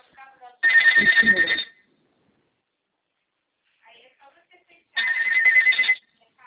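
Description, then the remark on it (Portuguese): A phone ringtone sounds in two loud bursts of about a second each, with a steady high pulsing tone, separated by a pause. Faint speech murmurs are heard between them. “Se quiser atender, tá?”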